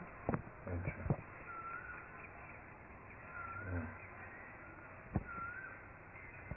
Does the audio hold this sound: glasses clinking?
no